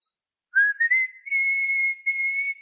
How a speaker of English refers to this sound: I'm a whistler. I'll be around Walmart, and I remember I was actually in Walmart, and there was a sweet black family that was there, and I was there, and I was whistling, "Jesus is coming soon."